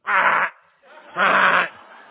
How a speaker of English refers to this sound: That's what you get from a raven. He sounds worse than me singing.